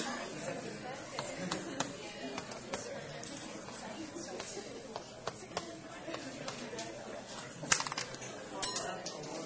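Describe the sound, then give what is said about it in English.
Scattered metallic clinks and taps of coins dropping onto a hard floor as audience members handle coins during a lecture exercise, coming irregularly from different spots around a room, over a steady background murmur of many people talking. “See, I'm hearing the coins hitting the floor already.”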